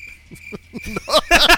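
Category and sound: insect, crickets chirping sound effect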